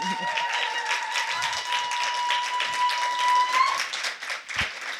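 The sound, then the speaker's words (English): A crowd applauds steadily for two guests, a dense wash of many hands clapping at once, sustained throughout, with a faint held tone running underneath. “Just one more applaud for these two.”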